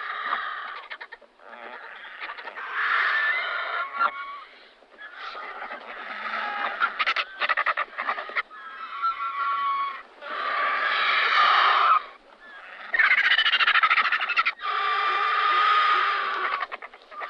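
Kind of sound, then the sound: bird, griffon vulture calls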